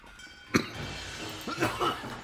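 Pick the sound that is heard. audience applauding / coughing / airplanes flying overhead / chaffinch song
coughing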